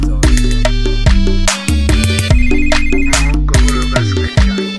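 A loud mobile phone ringtone plays a bright electronic melody of stepped synth notes over a steady bass pulse, repeating without pause and with no voices over it.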